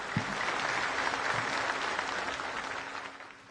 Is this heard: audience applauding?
yes